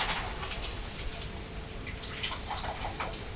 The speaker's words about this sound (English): Lemon. fizzy water, isn't it?